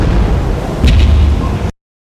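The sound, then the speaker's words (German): Loud, booming gunfire echoes across open water, a deep rumbling roar with a sharper crack or two midway before it cuts off abruptly. “In diesem Augenblick dröhnten Schüsse über das Wasser.”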